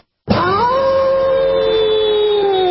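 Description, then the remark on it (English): In a Geico advertisement, a werewolf, a man who turns into a werewolf at the full moon, gives a single long howl that starts abruptly, swoops upward, then holds a steady, mournful pitch that sags slightly at the end. It is loud and alone, with no voices. “My goodness, I am tired of being known only as the guy who turns into a werewolf at the full moon.”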